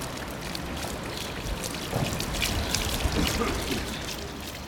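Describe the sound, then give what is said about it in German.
Water runs and splashes steadily from an old street water fountain on Nollendorfstrasse in Berlin, a continuous trickling pour with faint street ambience, moderately loud. “Après avoir longé les fontaines de la Nollendorfstrasse, où les Berlinois au début du XXe siècle se ravitaillaient en eau,”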